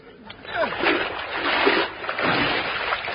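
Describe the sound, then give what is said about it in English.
Water splashes and sloshes in broad, irregular surges for a few seconds, close by, as if someone wades and clambers out of a river; faint background voices are possible but no clear talk. “Let's get out of the water and see if our draw cellular are wet.”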